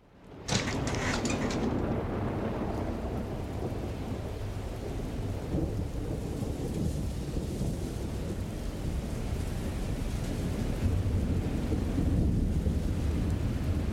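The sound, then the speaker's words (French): A thunderstorm rumbles, with a loud crack of thunder at the start rolling into a long, deep continuous rumble over steady heavy rain. “La tempête s'est levée.”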